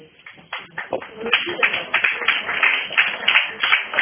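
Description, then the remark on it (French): A crowd breaks into applause, starting with a few scattered claps and swelling into steady, dense clapping that holds at a moderate level, with a faint murmur of voices mixed underneath. “C'est fini alors, ça y est, si j'ai eu les applaudissements.”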